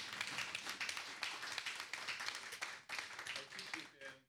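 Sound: audience applause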